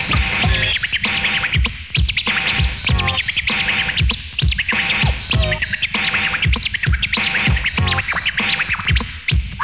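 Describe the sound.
Rapid turntable scratching by a DJ mimics a chirping bird, with quick high-pitched squeaky bursts repeating over a steady beat, loud and continuous throughout.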